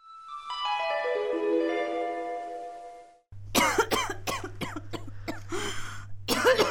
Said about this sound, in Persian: چی شده؟ باز که سرفه میکنی؟